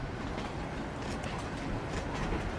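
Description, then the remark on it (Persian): A steady, dense rumble of a passenger train rolling along the rails, with faint rhythmic clatter and hiss riding over the low roar, continuous, with no voices. “کنار ریل قطار، مرتضی در حالی که بسیار مضطربه منتظر رسیدن قطاره. داخل قطار، محسن بلند میشه و داخل راه روی قطار میاد و بیرون رو نگاه میکنه.”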